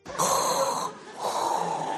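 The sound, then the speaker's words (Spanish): Two heavy, hissing breaths of an astronaut about to step onto the moon, one drawn in and one pushed out, with a hollow, resonant rasp like breathing through a mask or helmet. “Me estoy escuchando la respiración y digo, macho, le pasco al Darth Vader”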